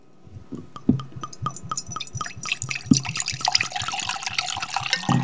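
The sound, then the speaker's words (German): Wine, an Auxerrois from a freshly opened bottle, glugs and splashes into a glass, starting as a quick series of rhythmic gurgles and building into a steadier, brighter pour with no talking. “darf ich dir einschenken?”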